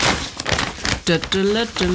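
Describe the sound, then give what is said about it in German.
Paper crinkles and rustles in quick bursts as an envelope holding a funding contract is opened, and then a person starts talking over the last of the rustling. “Hier ist er, ich raschel mal damit, weil er ist noch im Umschlag und ich habe gedacht, ich mache ihn jetzt, wir packen ihn mal live aus.”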